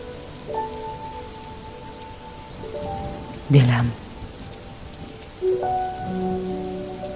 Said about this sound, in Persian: باران